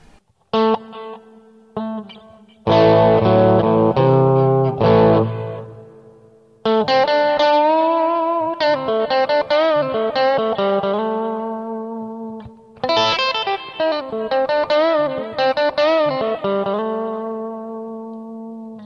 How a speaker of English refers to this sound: So this case, I'm going to use a very spacious sounding hall reverb, set reasonably high, reasonably pronounced. Adds a lot more space to the sound, as you can hear.